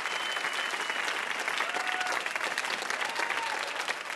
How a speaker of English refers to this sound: One more round of applause our VIP, Jed Abumrad.